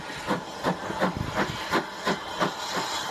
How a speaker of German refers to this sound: Spannender war darum fast die Umkoppelung der Lokomotive, die hier stattfand.